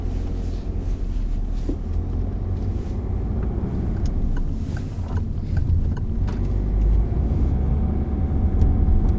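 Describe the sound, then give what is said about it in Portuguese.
Steady low rumble of a car driving along a busy city avenue, with engine and road noise filling the background and occasional faint clicks and passing vehicle sounds. “Quantos carros já andam por aqui? Era para não haver tanto carro. Mesmo aqui na avenida há bastantes”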